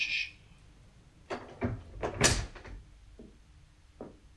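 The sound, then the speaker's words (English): The door to a home over a shop is unlocked and opened: a few sharp clicks and rattles, then a louder clunk and scrape around the middle, followed by a couple of faint knocks. No one speaks. “This is the door. This is the one we want.”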